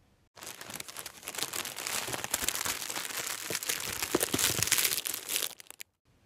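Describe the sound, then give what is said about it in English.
Dense, crackling paper noise, steady and fairly loud for about five seconds, with sharper crinkles and rips scattered through it, as the tissue paper wrapping is torn off a box of Turkish Delight. No voices. “He was itching for more and tore off the tissue paper wrapping faster than a child at Christmas.”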